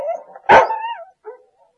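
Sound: dog barking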